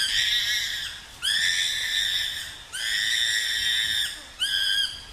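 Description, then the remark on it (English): A chimpanzee being attacked screams in fear: four loud, shrill, sustained shrieks in close succession, each harsh and piercing, with brief gaps between them and no talking. “When it does happen, the chimp being attacked will often scream in fear.”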